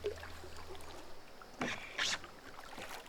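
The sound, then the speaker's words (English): A small boat steered with paddles glides through water, with a couple of splashy paddle strokes and soft lapping over a steady watery background; no one speaks. “Found your boat!”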